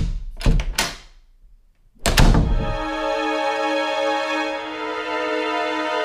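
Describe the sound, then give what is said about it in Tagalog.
The door to the speaker's sibling's bedroom is handled and opened with a couple of sharp wooden knocks, a pause, then another solid thunk, followed by a steady humming tone that lingers afterward. The door is opened after repeated knocks got no answer. “Wala pa rin tugon ng aking kapatid kaya sa ikatlong pagkakataon ay nagdesisyon na akong buksan ang kanyang pintuan upang personal na itong gisingin.”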